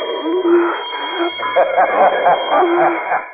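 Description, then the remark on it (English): A bell on a marsh island rings continuously each time a crawling man moves, one steady, high-pitched tone held for several seconds, while a muffled, wavering voice-like sound rises and falls beneath it. “A bell rings every time you move.”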